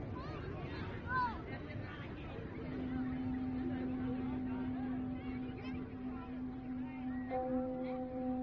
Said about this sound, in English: We don't want to get stuck in this crowd.